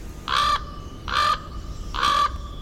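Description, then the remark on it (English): Three harsh, raspy raven calls ring out at a steady pace, roughly one per second, each loud and brief, over a low background rumble with no voices. “The Juneau, Alaska landfill is famous for its gathering of gulls, and you used to be able to find lots of ravens, too.”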